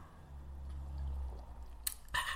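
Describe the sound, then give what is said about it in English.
Two short slurping sips of hot coffee come quickly one after the other, following a low steady hum, with no talking. “I'm just sipping my coffee here.”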